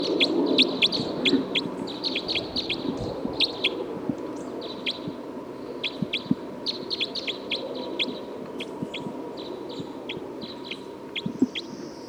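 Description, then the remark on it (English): Rapid, high-pitched calls of bird 305, being recorded, repeat in quick bursts of sharp chirps throughout, over a steady low rumbling background, with no one speaking. “That was bird 305.”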